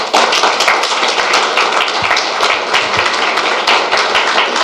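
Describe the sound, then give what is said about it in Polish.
Loud, sustained applause from a crowd welcoming two women invited to the front, a dense steady roar of many hands clapping without pause, with no voices standing out above it. “Dajmy im gorąco klaski.”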